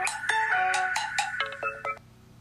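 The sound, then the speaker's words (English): A phone's call-ending tone, from a call accidentally hung up when the caller turned over: a short run of bright electronic beeps, a few sustained pitched notes followed by quicker choppy ones, then silence. No one speaks. “I turned over and it ended up hanging the phone.”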